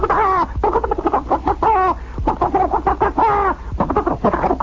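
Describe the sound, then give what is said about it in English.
A voice imitates turkeys gobbling, a loud run of rapid warbling, throaty bursts repeated over several seconds with brief gaps between them. “And I hear these turkeys all go...”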